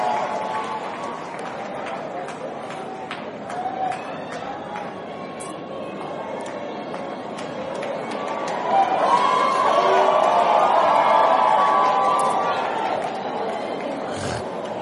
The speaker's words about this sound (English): Now give her a hand clap.